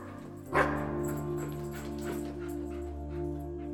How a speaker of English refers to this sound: and then I would make him drop it off in front of me, and then he would start to bark. So it was like this big, fun game that we had.